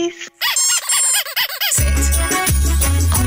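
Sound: whistle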